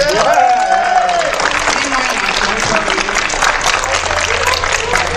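A room full of people claps loudly and steadily for several seconds, a dense, continuous wash of applause with a brief vocal whoop near the start.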